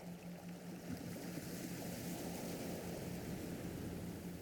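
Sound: ocean waves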